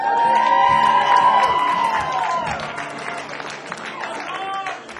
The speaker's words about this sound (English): That's the biggest applause for Scranton I've ever heard.